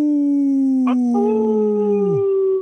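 A wolf howls in one long, steady note that holds for about two seconds and then slides down at the end, with a second voice briefly joining partway through. No talking.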